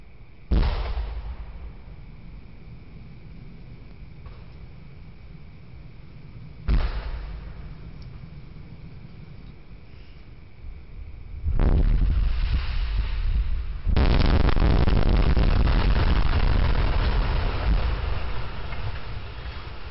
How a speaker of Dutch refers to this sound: Vier opeenlopende knallen, waarvan je bij de laatste wel hoort dat het een serieuze is. Bij de eerste twee dacht ik nog, vuurwerkbommetje, het is december.